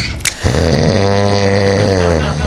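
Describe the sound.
A single long, loud snore rumbles for about two seconds, a steady low buzzing drone that opens with a short breathy rasp. No one speaks.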